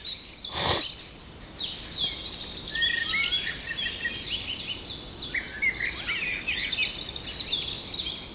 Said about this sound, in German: Die Amsel, aber ich glaube, er kommt gleich in Fahrt. Du-du-du-du-du. Du-du. Fast wie so ein Papagei.